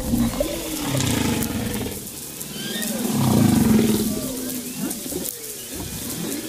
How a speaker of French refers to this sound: la friture vocale des baleines